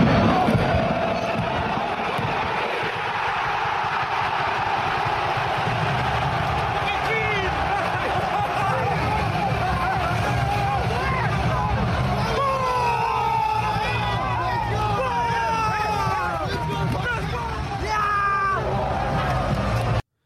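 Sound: football crowd cheering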